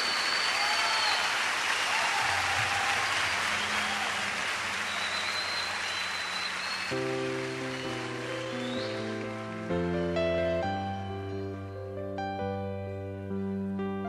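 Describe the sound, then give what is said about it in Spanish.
At an evening music event, an audience claps in a dense, sustained burst of applause for several seconds, dedicated to 'the one artist', then the clapping gives way to a warm musical passage with sustained low tones and bright melodic notes. “Otro es el artista y iniciamos dándole el mejor aplauso de este momento y de nuestra vida a ese único artista.”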